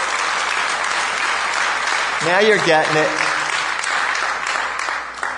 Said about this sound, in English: Hallelujah. Give it up to the Lord, please. Give him a thanks clap.